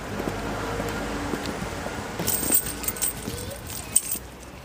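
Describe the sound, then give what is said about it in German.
Keys jingle, a few bright metallic clinks and a sharper click near the end as a woman arriving home pushes a key into the door lock, over a steady background hum. “Und als sie den Schlüssel ins Schloss steckt”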